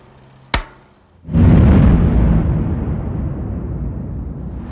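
An explosive blast set off with a detonator in a mine tunnel after the 'fire in the hole' warning: a sharp crack followed a moment later by a deep, loud rumbling roar that slowly fades.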